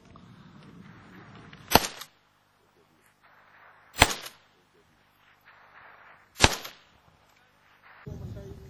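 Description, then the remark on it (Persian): Three loud, sharp gunshots fired by Iraqi Kurdistan Peshmerga forces on the Bashiqa front, 800 metres from Islamic State earthworks, ring out one at a time, roughly two seconds apart, each with a brief echoing tail across open ground, over a low background rumble. “نیروهایی که تحرکات شبه نظامیان را رصد می کنند و گاهی با دیدن حرکتی به سمت آن شلیک می کنند.”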